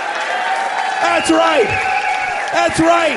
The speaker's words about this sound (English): Do you understand that when you clap for him, that means more bad jokes? That's what's going to happen.